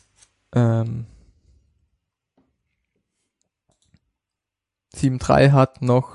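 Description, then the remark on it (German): A couple of soft, isolated computer mouse clicks, made while clicking on a link, tick through a quiet pause, set between two stretches of someone talking into the mic. “Jetzt habe ich weggeklickt natürlich. Lass mich nochmal auf den Link klicken.”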